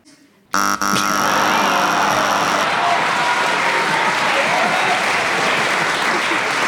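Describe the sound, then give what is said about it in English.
A loud, harsh game show buzzer blares for about two seconds as a contestant challenges, its droning tone overlapping a burst of audience applause that carries on steadily after the buzz cuts off. “The buzzer is a cruel mistress.”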